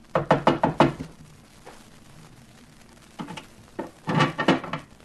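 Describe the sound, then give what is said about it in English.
A waiter raps on an iron door at the top of a narrow staircase: a quick burst of about five sharp knocks, a pause with faint background, then a few more knocks and another rapid cluster of raps. “The waiter rapped on the door.”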